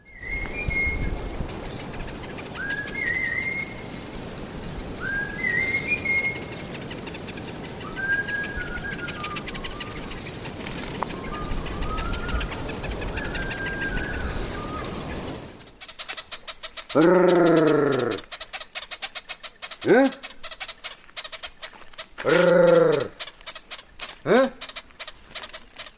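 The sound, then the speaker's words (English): A string of short, rising human whistles repeats over steady outdoor background noise, then gives way to a few loud, rolling, trilled vocal calls in separate bursts: calls honey hunters use to summon wild honeyguide birds, first in Tanzania, then in Mozambique. “So have a listen to this, some very different calls used by people, first of all in Tanzania, then Mozambique.”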